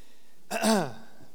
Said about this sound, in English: I'm still trying to get over my whatever and still hacking and coughing some. And hopefully I won't hack and cough while I'm trying to preach. Have a couple cough drops at the ready, though, just in case.